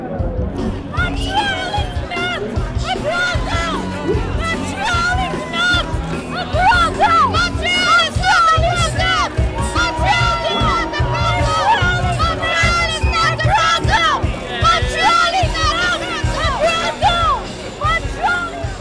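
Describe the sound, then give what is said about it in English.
Dense crowd chatter fills a street gathering with sports cars, very loud music, photographers and waiting media, many voices overlapping into a steady, loud hubbub with occasional raised calls rising above the murmur throughout. “Everyone is trying to get their pictures taken next to the Alfa Romeo, but there are a few more photographers here than normal.”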